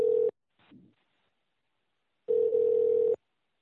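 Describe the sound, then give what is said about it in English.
A telephone dial tone, as a call is placed to a Bigfoot researcher in Benton, Mississippi, for a radio show, sounds in two steady, buzzy bursts, a short one and then a longer one, separated by a quiet gap with a faint soft blip, clear with no talking. “And Chuck will be getting MK on the phone.”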